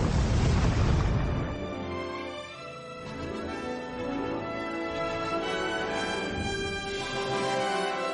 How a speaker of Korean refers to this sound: 아메리카군은 이를 놓치지 않고 건물들을 폭파하기 시작했습니다. 건물을 향해 대포를 쏘아대자 머지않아 해시안 용병 부대는 항복하고 말았습니다.